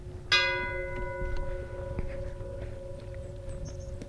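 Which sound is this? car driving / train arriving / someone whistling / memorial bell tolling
memorial bell tolling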